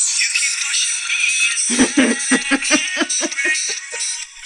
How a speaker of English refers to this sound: Here's my ringtone.